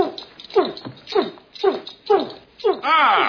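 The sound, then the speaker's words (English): A person imitates a big dog barking on command: five loud woofs in a steady rhythm, ending with a longer, wavering yelp-like call. “Arf! Arf! A big dog. Woof! Woof!”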